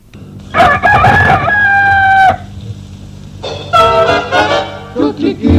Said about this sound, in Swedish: Kuckeliku, det är morgon nu.